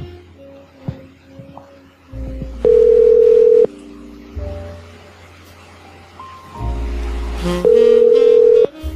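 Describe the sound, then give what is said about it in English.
Push-button telephone tones sound in sustained electronic beeps, two loud steady blasts about a second long, with quieter tones and a low droning hum running beneath them and no voices. “There's another push button there. Into the phone”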